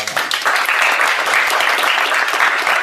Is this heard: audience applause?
yes